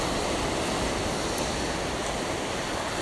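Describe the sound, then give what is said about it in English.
A steady, full roar of ocean surf washing against rocks on a beach at sunrise as the tide comes in, a continuous rushing hiss with no distinct individual crashes, even in loudness, with no voices. “Waves are crashing on the rocks, glistening on the sand.”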